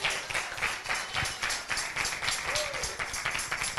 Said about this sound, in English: Praise the Lord. Are you happy you're here today? Give the Lord a big clap off.